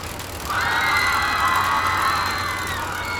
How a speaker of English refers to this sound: I don't know if you can even hear me over all the screaming.